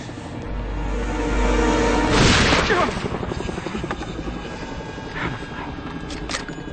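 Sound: helicopter approaching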